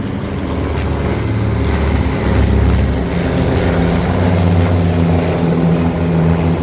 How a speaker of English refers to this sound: Sounds like B-18s. How do you know this stuff? Easy. B-18s are twin-engine. So? Well, single, twin, and multi-engine planes sound a lot different. See? Those are twin-engine planes up there.